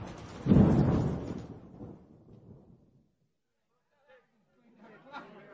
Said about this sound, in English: Tonight, there is a terrible storm, and it is raining.